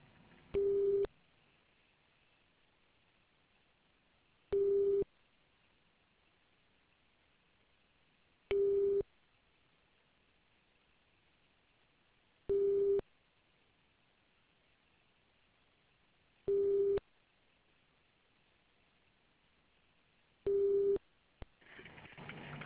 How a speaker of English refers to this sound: Hi there, I'm afraid the line's just ringing out.